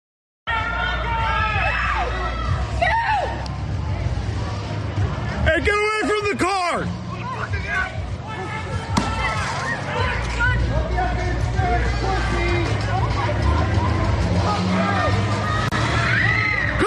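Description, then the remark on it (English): A dense, agitated crowd of protesters shouts and clamors around a driver's car after he made a wrong turn, with sharp yells rising above the babble and a low rumble underneath. “look what these protesters did to this driver making the wrong turn in clip 22 here.”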